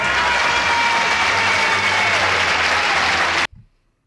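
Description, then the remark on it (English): Loud, continuous clapping smeared into a harsh, distorted wash of noise over a Zoom video call, holding steady for about three and a half seconds before cutting off abruptly into silence. “I'm guessing the Zoom does not like the clapping.”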